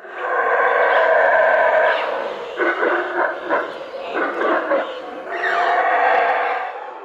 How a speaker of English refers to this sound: That was a howler monkey, one of thousands of the species living in the Great Maya Forest of Central America. It's the second largest rainforest in the Americas, covering almost 60,000 square kilometers across Mexico, Belize, and Guatemala.